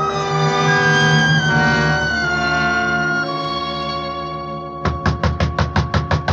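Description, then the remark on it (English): Several electric doorbells in a building buzz and ring at once as a hand is laid flat over all of them, in a loud, overlapping drone, then break into a quick series of rapid, evenly spaced pulses. No one speaks. “So I laid my hand flat over all the bells in the place so somebody'd open up.”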